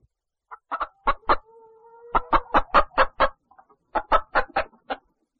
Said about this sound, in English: A hen.